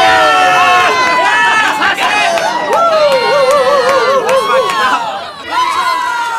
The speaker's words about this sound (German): Hunderte halbnackter Körper saßen dicht gedrängt hinter der Absperrung im Sand und brüllten sich die Seele aus dem Leib, um ihre Favoriten anzufeuern.